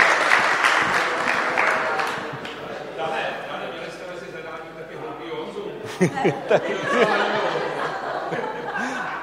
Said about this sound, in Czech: Takže stihli jste to v limitu, takže velký potlesk, výborně.